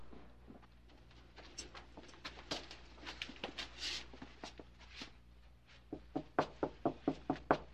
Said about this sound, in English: Why are you knocking on the door, Max? Don't you live alone? Yes, but I seem to have misplaced my key.